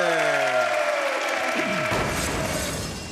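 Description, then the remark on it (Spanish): Sliding musical tones give way to a dense, steady wash of audience applause for a dance contestant representing Costa del Este, Panama, filling the second half, loud and sustained before easing slightly at the end. “Aplauso para la señora de Costa del Este, hombre.”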